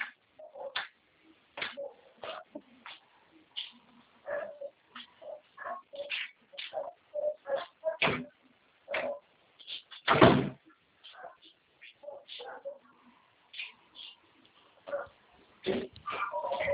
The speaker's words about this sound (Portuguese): deixa eu só fechar uma porta aqui, que uns cachorros latindo, está incomodando os ouvintes.